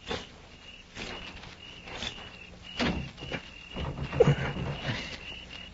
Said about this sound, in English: It's shut, all right. I'm going to try the door. If it opens, flip a couple of shots in.